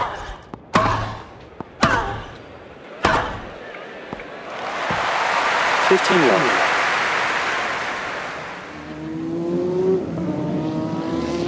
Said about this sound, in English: I was doing American car racing, they call it NASCAR, and this particular race was a half-mile oval and essentially what would be considered a football-type stadium with very high banking. The cars put out 140 decibels of sound, maybe more.